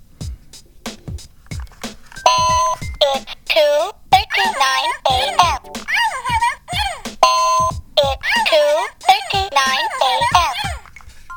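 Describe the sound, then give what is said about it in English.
An electronic clock alarm beeps in a couple of short, steady bursts, mixed with busy, chattering voices and a few sharp knocks at the start. “There's also a slight possibility that there's something wrong with that clock.”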